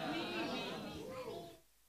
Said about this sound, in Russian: Ух, вот это аминь детское, это мощно.